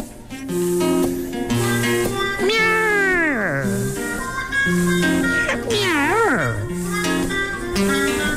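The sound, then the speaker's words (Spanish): A black cat on a wall gives two long, drawn-out meows, each sliding downward in pitch, rising loudly above a steady musical accompaniment, a few seconds apart. “Hay un gato negro en el tapial que camina tranquilo pensando en lo suyo como si nada.”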